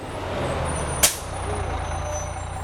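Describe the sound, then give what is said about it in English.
A number 17 city bus idles with a steady low diesel rumble, then its air brakes release one short, sharp hiss partway through before the engine drone carries on. No one speaks. “Which bus is this? This is the number 17.”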